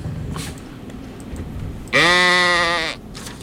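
baby goat bleating

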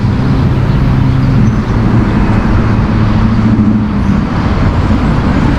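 road traffic

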